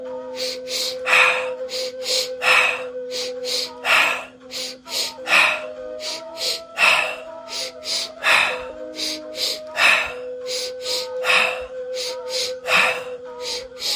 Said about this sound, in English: Sniff, sniff, sigh, in through the nose twice, out through the mouth, in through the belly the first sniff, into the chest the second sniff, and then out through the mouth.